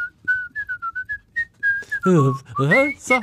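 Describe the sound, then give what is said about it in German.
A whistled melody of the bird-catcher's aria from The Magic Flute, played as a round of a guess-the-tune game: about a dozen clear, bright notes in a bouncy rhythm, followed by people talking loudly over the last second. “Vogelfänger. Ach, scheiße. Aus der Zauberflöte.”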